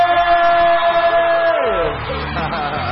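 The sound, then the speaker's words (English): A studio crowd on the Groot Breakfast show cheers and claps to welcome Ross Limo, in a dense, steady roar, with a long high whoop riding over it that trails off partway through while the applause carries on. “You weet, hierdie mense, ons betaal hulle verskriklik baie geld just to clap hands, you know.”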